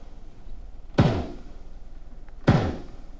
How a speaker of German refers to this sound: Dazu muss ein tonnenschwerer Hammer mehrere tausend bis 10.000 Schläge ausführen, viele Tage und Nächte lang. Der Höllenlärm ist kilometerweit im Meer zu hören. So klangen Rammarbeiten bisher noch in 4 Kilometer Entfernung.